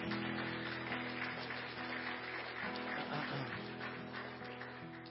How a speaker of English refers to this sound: Let's just give the Lord a clap offering for her.